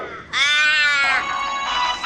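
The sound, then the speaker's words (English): A person's voice imitates a crow with one long, loud, raspy caw. It starts high and strained, then turns rougher and noisier as it drags on for nearly two seconds. “We're just doing crow noises again, you know?”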